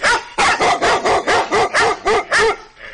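A dog barks loudly in a rapid, steady volley of about nine sharp barks, with a fainter whimpering yip trailing off at the end.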